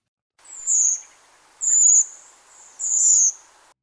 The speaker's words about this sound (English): Go out on a clear, still night in October. Listen, and you may hear the penetrating, high-pitched seep of redwings, newly arriving here in flocks for the winter from Scandinavia and Northern Europe.